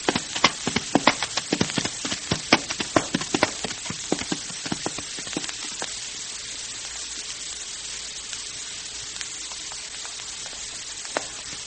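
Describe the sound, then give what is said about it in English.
Horses, including Pinto, a Mustang, clip-clop up mountain trails in a quick, uneven rhythm of sharp clacks. The hoofbeats thin out to occasional single beats over a steady background hiss. No one speaks. “Riding up these mountain trails isn't any too easy on these horses”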